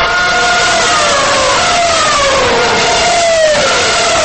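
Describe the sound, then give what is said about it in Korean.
A loud, high-pitched Formula One racing car engine screams past at the Korean Grand Prix, Korea International Circuit in Yeongam, South Jeolla, South Korea, its whine dropping in pitch as it goes by, over a constant roar of the other engines of 24 cars, with no one speaking. “엄청난 굉음을 내며 달리는 24대 자동차들이 한국 전라남도 영암 포뮬러원 코리아 그랑프리 국제 경기장을 질주하고 있습니다.”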